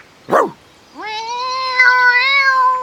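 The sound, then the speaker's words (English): A cat gives a short chirp, then after a brief pause lets out one long, drawn-out meow that rises and holds steady, loud with no one talking. “There's a cat. Can you see the cat?”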